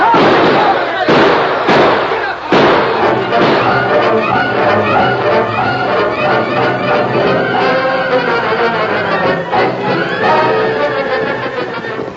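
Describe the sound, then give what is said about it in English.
A handful of sharp gunshots crack out close together near the start, with one more later, over a dense, continuous commotion of raised voices, clatter and galloping horses as riders flee down a dusty street under gunfire. “With bullets flying thickly about them, the masked men and Tonto raced to safety, their powerful stallions thundering down the dusty street.”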